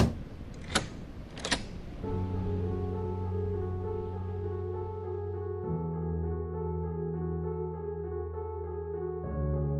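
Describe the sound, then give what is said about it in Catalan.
A van door slams shut with two sharp thuds in quick succession, followed by a steady low engine drone that continues to the end. “Asseguris de que estan ben fermats i tanqui la porta de la furgoneta.”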